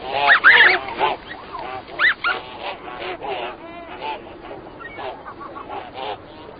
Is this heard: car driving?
no